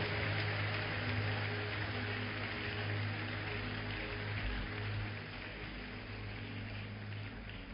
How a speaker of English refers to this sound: Let's give Jesus a big hand clap for salvation.